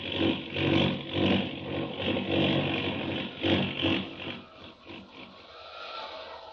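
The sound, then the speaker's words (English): In a Superman radio drama, an airplane engine roars in a steady, straining drone as the plane goes out of control in a tailspin over the Rocky Mountains, its pitch and loudness surging and dipping as it dives, then easing slightly toward the end. No voices. “That plane, it's out of control, falling fast.”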